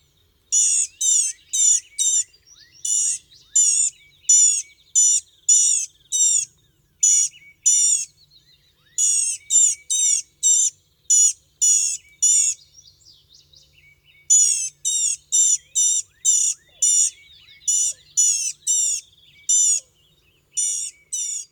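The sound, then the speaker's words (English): High-pitched, nasal bird calls from a blue-gray gnatcatcher repeat in quick, buzzy bursts over about twenty seconds, with a few brief pauses and faint thin twitters between them. No voices are heard. “Known for its high-pitched nasal calls, the blue-gray gnatcatcher doesn't regularly sing a pretty melodic song, as do most other songbirds.”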